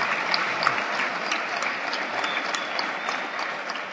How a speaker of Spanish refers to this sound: Aplausos para los profes.